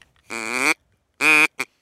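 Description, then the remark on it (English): A duck call is blown in three nasal, buzzy quacks: a long drawn-out blast, a shorter one after a pause, then a quick clipped blip. No talking. “I've got a duck call you can try that is sanitary.”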